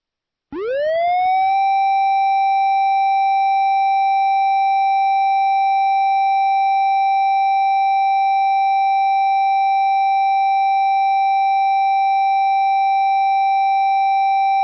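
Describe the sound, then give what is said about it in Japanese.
A loud fire siren, sounded for a town fire department ceremony, winds up quickly in pitch, then holds a single steady, droning wail for over ten seconds, sounding alone with no voices. “ただいまより気泡町消防手染め式の開催に伴う消臭サイレンを水鳴いたします。”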